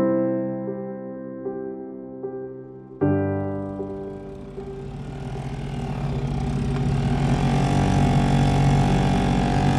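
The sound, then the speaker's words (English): A small outboard motor on a Zodiac inflatable boat hums at a low idle, then kicks up sharply and revs into a loud, steady roar that grows rougher and fuller as the boat gets underway, zooming around on a visual search for plane wreckage over ultra-clear water. “We hopped into a Zodiac craft, a small inflatable boat with a motor, and started zooming around, taking advantage of the ultra-clear water to conduct a visual search, looking to the floor below.”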